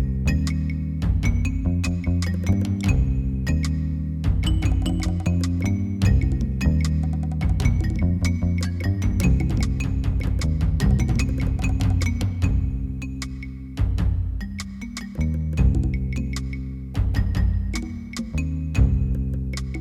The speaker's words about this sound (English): This song is the Monkey Island map music. When you're looking at the overhead view map of Monkey Island, this is what you hear.